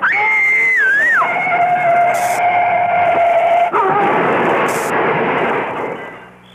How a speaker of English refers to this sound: It was a tree we hit.